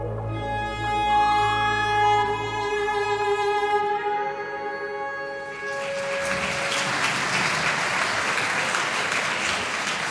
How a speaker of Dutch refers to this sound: Ja, wat leuk hier al gaan klappen. Dat mag zo meteen nog veel harder en nog veel uitbundiger als ik de koningin van de haute couture naar voren ga halen.